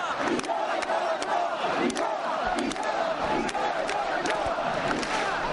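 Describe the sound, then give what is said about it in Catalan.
A crowd of young people shouting together, a loud, continuous wall of massed voices with sharp bursts breaking through at irregular moments for the whole stretch. “Ara sentim els crits de joves, espereu.”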